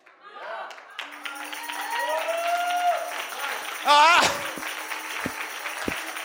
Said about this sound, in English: I'm going to clap for myself right now. I'm going to amen myself.